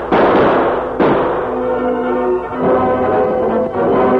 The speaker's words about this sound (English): Collins and Lefty fired. As the Lone Ranger and Tonto dropped to the ground and sprawled onto the grass, guns blazing. Shots whizzed close in the tall grass where they lay, but their shots found targets.